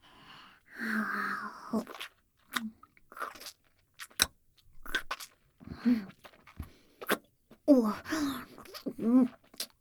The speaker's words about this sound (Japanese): もぐもぐするところよーく見せてね。